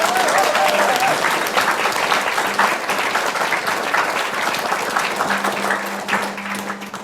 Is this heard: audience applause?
yes